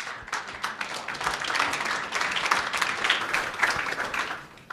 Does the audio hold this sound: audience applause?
yes